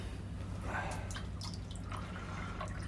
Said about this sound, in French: Allez, sers-moi du thé.